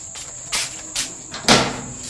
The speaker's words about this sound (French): Bon, ça, les moustiques, on n'en finit pas avec les moustiques. Dès que l'électricité part, allez, vous commencez à entendre les bruits des moustiques dans les oreilles.